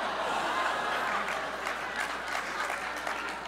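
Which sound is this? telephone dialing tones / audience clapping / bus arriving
audience clapping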